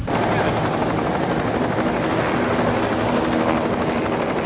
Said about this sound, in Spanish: Por suerte, llegó el helicóptero.